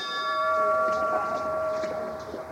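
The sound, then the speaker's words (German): A bell is struck at the main entrance of the Melaten cemetery in Cologne, Germany, to begin a guided tour, ringing out with a steady, sustained metallic tone that hangs in the air throughout, over faint outdoor background noise, with no one speaking. “Mit einem Glockenschlag am Haupteingang beginnt Detlef Rick den Rundgang”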